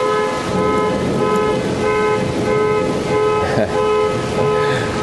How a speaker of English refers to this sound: Why, you hear that shit? That thunder was so loud, it set off a car alarm. How fucking crazy is that? That is so awesome.